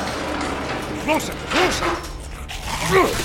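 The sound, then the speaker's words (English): Big doors groan open in a few drawn-out, rising-and-falling creaks, moderately loud, with a low mechanical rumble underneath. “Here, I think this opens the big doors. All right, we're ready. Coming your way. Your hallway secure. Opening the doors.”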